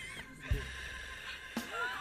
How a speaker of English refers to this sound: You can tell by the heavy breathing